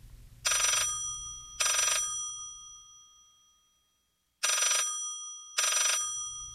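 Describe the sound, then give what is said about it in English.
A telephone rings loudly in two double bursts, each ring a bright metallic trill, with a short silent pause between the pairs and a low hum underneath. “Let's face it, picking up the phone one day or one early morning in October and hearing a voice with a Swedish accent assuring you that the Nobel Committee had not, in fact, misdialed, well, that would certainly be music to a scientist's ears.”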